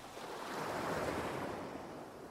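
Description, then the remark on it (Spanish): Small, gentle waves wash in a soft, steady hush that swells slightly and eases back, with no voices over the water. “Sientes las pequeñas olas bañando tu cuerpo, tu abdomen, tu pecho, el cuello”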